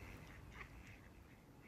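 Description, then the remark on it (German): A duck quacks a few times, faint, its short nasal calls rising briefly over a steady low background hiss. “Die Entennaken. Mal kurz aufhören.”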